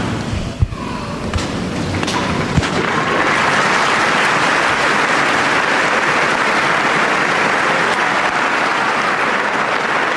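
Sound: large audience applauding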